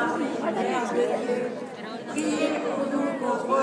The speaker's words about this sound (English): We're trying to find a way of slipping through a big crowd, because we don't actually want to stay in the centre.